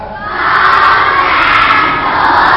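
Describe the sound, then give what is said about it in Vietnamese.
A large group of children shouts together in unison in Vietnamese, answering a teacher's count of 1, 2, 3 with "I can do it", a loud, sustained massed cry that swells quickly and holds steady for a couple of seconds. “Và thầy hỏi các cháu làm được bạn làm chủ bản thân mình hay không. 1, 2, 3.”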